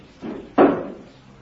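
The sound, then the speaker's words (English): A top window is shoved open: a brief scrape, then a sharp thud as the frame gives way, with a short rumbling decay. No voices over it. “Will somebody release that top window so we can get some air in?”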